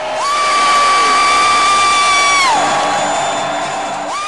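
football stadium crowd roaring

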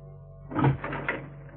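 door being opened

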